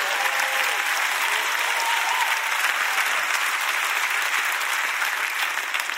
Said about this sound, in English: You see these security people around our church keeping you safe? Thank God for them. If you knew how crazy some Christians are, you'd be clapping better than that for the security team.